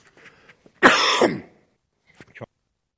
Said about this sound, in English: So I'm going to have to go for a really hard cough.